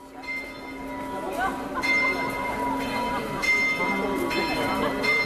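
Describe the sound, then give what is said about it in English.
Church bells ring out at midday from the belfry of the 600-year-old Church of the Maltese Order, on a city shopping street a few hundred meters from St. Stephen's Cathedral: several overlapping strikes at a steady pace, their long humming tones sustaining and blending into a loud, continuous wash of pealing. “Stephen's Cathedral, another set of bells rings out from the belfry of the 600-year-old Church of the Maltese Order.”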